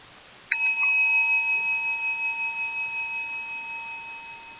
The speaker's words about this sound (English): Next thing we have is the meditation that we're going to have about, a minute or so of just quiet time. And that can begin with the sound of a gong and end with the sound of a gong.